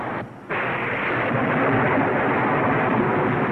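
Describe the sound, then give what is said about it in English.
Heavy rain pours down in a dense, steady hiss that fills the whole clip, briefly thinning for a moment near the start before surging back at full strength. No voices are heard. “Boy, listen to that rain.”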